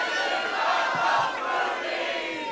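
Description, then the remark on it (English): A high, sustained scream from an audience member at a live show rises out of the roaring audience, loud and steady for a couple of seconds with the cheering and shouting churning underneath. “Wait, who was it that just screamed?”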